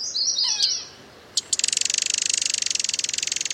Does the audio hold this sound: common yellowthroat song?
yes